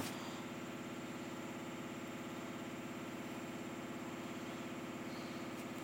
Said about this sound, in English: my washing machine is stuffed so full that basically the whole house is vibrating